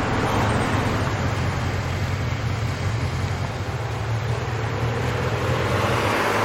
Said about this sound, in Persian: نعیم و صدرا کنار خیابون ایستاده. مرتضی با یه نفر موتور سوار سمتشون میاد.